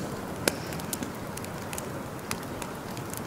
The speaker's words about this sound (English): I thought I'd bring one, but it's two. So I have two campfires.